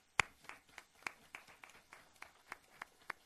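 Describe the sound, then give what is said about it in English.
A brief, faint round of applause for a group of finance staff who stand to be thanked, made of sparse, evenly spaced claps, roughly a dozen sharp slaps in a steady rhythm, with no one speaking over them. “Would y'all stand so we can give you a round of applause and thank you properly?”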